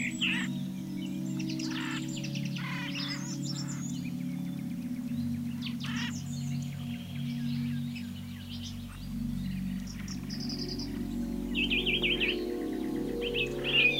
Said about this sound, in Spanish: loros colorados y verde esmeralda chillan con alegría.